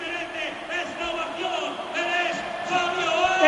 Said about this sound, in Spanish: Está. Está la ovación, me parece. Y ya. Le han nombrado, pero no sale.